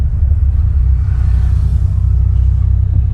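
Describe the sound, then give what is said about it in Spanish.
A car engine rumbles steadily throughout, a loud, continuous low-pitched drone like riding inside a moving car that is running low on gasoline on the way to a gas station, with no talking. “Estoy quedando sin la gasolina en el carro.”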